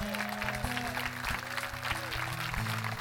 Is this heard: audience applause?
yes